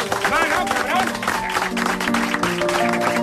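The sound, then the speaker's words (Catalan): Audience applause on a radio show for the date, Thursday 29 June 2023: a dense, steady patter of many hands clapping, with voices and tonal sounds mixed in throughout the few seconds. “És la primera vegada que s'aplaudeix una data a la ràdio.”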